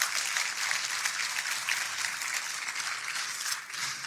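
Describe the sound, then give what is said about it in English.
A crowd breaks into steady applause, many hands clapping at once in a dense, even wash of sound that holds for several seconds with no one speaking over it. “Yeah, you can clap.”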